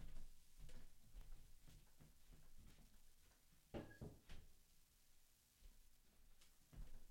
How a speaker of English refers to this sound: I got to close that door because Pooh Bear's sleeping.